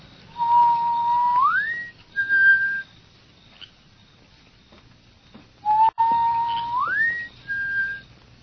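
Outside a dark house, a person whistles a signal twice: a steady low note that slides up to a higher one, followed by a short high tone, repeated after a pause. Clear, with no talking.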